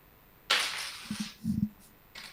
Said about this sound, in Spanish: Acá estoy, voy a batir otra vez las monedas. Otra vez.